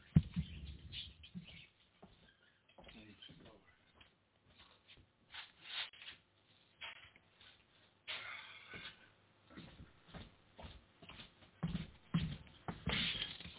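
A small pet bird chirps and twitters sporadically, fairly quiet, mixed with rustling and fabric-like handling noises as its cage is being covered, with no talking.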